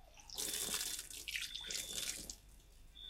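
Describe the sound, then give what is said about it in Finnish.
Water is poured over someone's hands, splashing and pouring in a steady stream for a few seconds, with uneven surges as it spills over and a faint running trickle continuing. “Saanko kaataa vettä? Ei ole tarpeen. Tai kaadan nyt sitten.”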